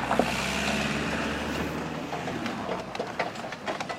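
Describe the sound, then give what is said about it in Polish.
A motor vehicle rumbles with a steady engine drone that gradually fades as it passes, leaving a few scattered clicks and rattles behind. No one speaks. “Tym razem jadą konie mechaniczne, tak?”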